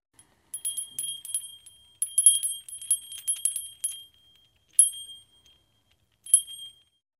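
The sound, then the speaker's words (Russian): A small, high-pitched bell hanging on a twig in a forest jingles in quick bursts of shaking, pauses, then rings out twice more with single bright chimes. It is clear, with no voices. “Бежит, а на веточке колокольчик висит и звенит.”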